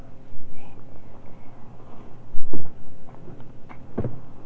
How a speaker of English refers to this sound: Don't bang that tape recorder. Don't you do it. You can be rowdy, but you be careful what you bang.